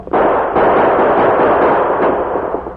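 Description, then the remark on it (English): A dense, continuous barrage of loud gunfire, shots blurring together into a sustained crackling roar for a few seconds, as the Lone Ranger and Tonto, dashing downhill, fire at a gunman hidden behind a pile of rocks in a valley. No voices are heard. “The gunman's victim staggered a couple of steps and dropped behind the shed, while the Lone Ranger and Tonto, dashing downhill, maintained gunfire at the distant rock pile.”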